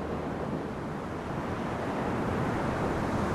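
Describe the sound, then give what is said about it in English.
A steady, dense roar of white-capped ocean surf at Ocean Beach in San Francisco, at the end of Slope Boulevard, washes on without pause, mixed with a gusty wind-like rush, with no one speaking. “When Bill McLaughlin looks at Ocean Beach, he sees a war zone, especially here at the end of Slope Boulevard, where white-capped waves have eaten away large chunks of the parking lot.”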